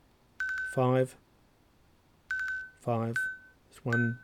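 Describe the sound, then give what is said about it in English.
A watch buzzes out the time, 11:58, as a series of buzzing tones, long buzzes for fives and shorter ones for ones, in separated bursts with short harmonic, voice-like blips mixed between them. “What it was doing, it was using a long buzz, and you heard, and that's why I kept the sound on, because you, rather than doing a single beep, it was doing a repeated beep.”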